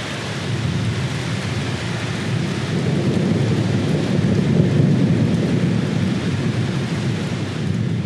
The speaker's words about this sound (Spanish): Desde tiempos remotos, las tormentas atemorizaron al hombre primitivo, un hecho inexplicable para ellos que sin duda les llevaba a hacerse toda clase de preguntas sobre aquel fenómeno.